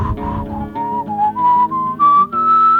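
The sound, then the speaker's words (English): A person whistles a clear, wavering melody in a folk song, the pitch sliding and rising across several sustained notes over a soft low-frequency backing. “You impudent little daughter, and what makes you whistle now?”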